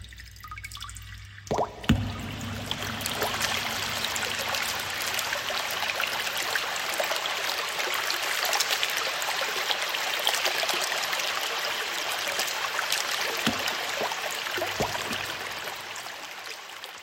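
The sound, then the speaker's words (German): A babbling brook flows steadily, a continuous bright rush of water with small splashes and drips scattered through it, starting after a brief quiet moment and running on without voices. “Wo dieser Bach entspringt.”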